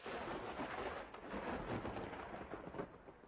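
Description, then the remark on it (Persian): A continuous, heavy rumble of thunder rolls on without a break, deep and fairly loud, with a rough, noisy texture like a passing storm. There are no voices. “تسبیح رعد، ذکر درختان، دعای باد، جنگل در این سحر به نماز کی استاد.”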